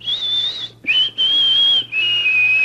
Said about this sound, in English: As if in answer to her question, a golden-crowned sparrow hopped onto the windowsill and sang its greeting.